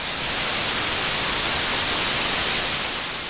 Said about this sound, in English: Let's listen to an example of white noise.